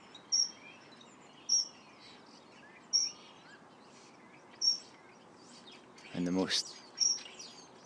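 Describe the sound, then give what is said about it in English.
A bird repeats short, high-pitched chirps at roughly regular intervals over a steady insect-like hiss, with one louder, rougher call breaking in near the end. “One of the most common birds. It's actually one of the most attractive in many ways.”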